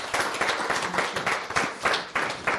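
A crowd applauds, a dense, steady patter of many hands clapping with a slight pulsing swell, filling the whole stretch without any talk.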